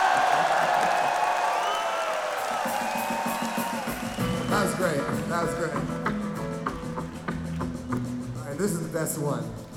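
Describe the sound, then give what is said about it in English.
A crowd, told to turn around and face the back of the room as if the stage were there, cheers loudly with whoops and shouts, the sustained roar gradually giving way to a jumble of excited voices chattering over one another. “And just cheer, face, and fall.”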